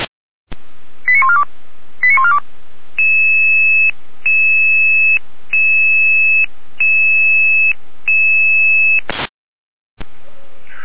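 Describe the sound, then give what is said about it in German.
Radio alerting tones from the Jena dispatch centre for emergency crews: a few quick beeps, then five steady two-pitch tones, each under a second with short gaps, over a thin radio hiss that ends in a brief static burst. “Jena mit Alarmierung.”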